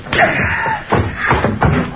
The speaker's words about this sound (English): That's it. Bash him with that gun barrel, kid.